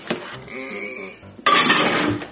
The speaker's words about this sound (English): I'm going to start with a marshmallow. More marshmallows. Macaroni and cheese. Some syrup. All right, now I got to put it in the microwave.